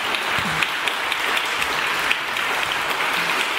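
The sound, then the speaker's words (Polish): Steady, dense applause from an audience after a jazz arrangement is performed fills the whole stretch, a continuous wash of many hands clapping at an even loudness with no voices standing out. “Wielkie brawa.”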